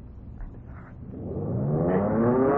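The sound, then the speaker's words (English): A low airplane engine rumble builds into a rising, steadily climbing whine as the engine restarts and revs up during a dive, growing louder over a couple of seconds with no talking. “The engine. We started again. We're in a dive.”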